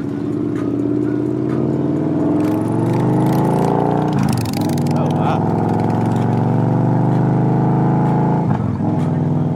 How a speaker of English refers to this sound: So I hop on Alan's bike. It's a 2014 Victory Cross Country, all white, polished, curves.